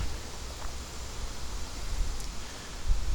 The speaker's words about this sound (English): Oh, it's getting windy.